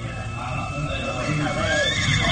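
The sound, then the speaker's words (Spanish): A horse lets out a loud, wavering whinny that rises and falls in pitch, over a steady rumble of background noise, as the horses are left behind and the group goes on foot. “Dejaremos los caballos aquí y continuaremos a pie.”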